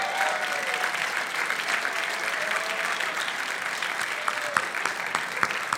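Sustained audience applause, a dense steady wash of many hands clapping with a few sharper claps standing out, holding at an even level throughout with a faint murmur of voices underneath.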